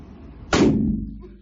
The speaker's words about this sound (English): Let's check out this midget shooting a huge gun. What is this, a 45, 44 cannon?